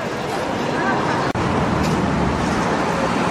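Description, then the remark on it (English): Steady, loud roar of city street traffic in the centre of Bristol, with passing vehicles blending into a constant wash of road noise and a faint murmur of voices, broken by one brief dropout. “Just parked my car in one of the main car parks in the centre of Bristol, and I'm now heading to the outskirts where the supposed location is of the cave dwellers.”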